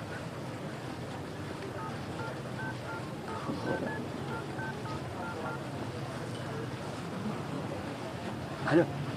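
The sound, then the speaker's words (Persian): A phone number is dialed as a quick series of short touch-tone beeps, roughly a dozen evenly paced keypresses, fairly faint over a steady rushing, wind-like background noise. “من باز چی به من زنگ زدی مرد حسابی؟”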